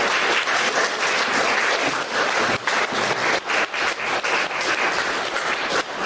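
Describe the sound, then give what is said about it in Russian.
An audience claps steadily, a dense, continuous wash of many hands with no break across the whole stretch, welcoming young musicians of a string quartet onto a stage. No one speaks over it. “Я хочу пригласить на сцену музыкантов. Давайте их поприветствуем.”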